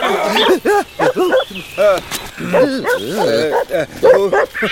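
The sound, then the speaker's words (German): Several dogs bark and yip in quick, irregular bursts, loud and overlapping, with short pauses between volleys. “Könntest du den Hunden sagen, sie sollen aufhören, an mir zu schnüffeln?”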